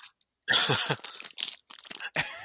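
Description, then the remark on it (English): Loud crunching of a crisp taco shell being bitten and chewed, in several irregular bursts with brief pauses between them, no talking. “Still eating this taco.”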